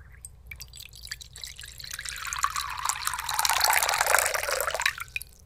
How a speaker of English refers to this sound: Let's put some water into the bowl.